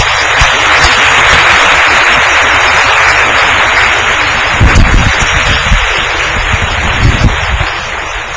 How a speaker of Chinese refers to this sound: 我要掌声来欢迎。